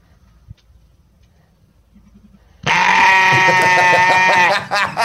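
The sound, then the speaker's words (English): A quiet, low rumble gives way to a single loud, wavering bleat from a sheep lying on its back, holding for about two seconds with a harsh, quavering tone before breaking off. “What is it? It's a sheep.”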